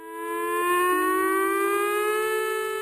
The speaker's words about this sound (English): That's a familiar sound to people who live near the San Onofre Nuclear Generating Station, the annual emergency siren test. Every year, 52 sirens go off like this in northern San Diego County and southern Orange County.